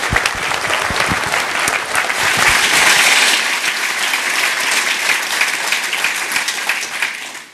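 An audience applauds in a steady, dense wash of clapping that stays loud for several seconds, then thins slightly and tapers off at the end.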